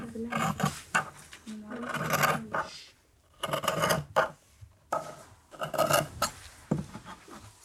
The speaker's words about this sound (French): Alors, on va découper lentement les ciseaux de tailleur, les grands, grands ciseaux.